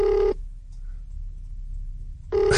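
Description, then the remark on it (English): A phone ringback tone during an outgoing call to the speaker's father: a steady buzzing ring, cut short, then a quiet pause with low line hum before the next ring starts. No one speaks. “So, the thing about my dad is I hope he answers.”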